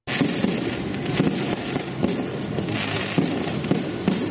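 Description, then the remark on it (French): A dense, continuous crackle of firecrackers and fireworks thrown at regular intervals by young children in the streets of Niamey, with sharp pops and bangs repeating every second or so over a steady background rumble. “Des pétards et des feux d'artifice jetés à l'intervalle régulier dans les rues par les jeunes enfants”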